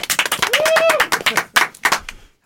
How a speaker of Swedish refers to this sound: Applåd för Linda Nyqvist!